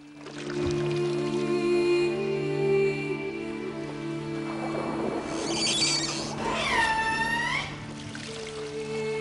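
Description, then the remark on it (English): A wet hand rubs hard along a handrail, producing sustained, loud squeaking tones that rise and bend like whale calls, with a few swooping squeals near the end and no talking. “Max frantically rubs a handrail with his wet hand, making whale-like noises”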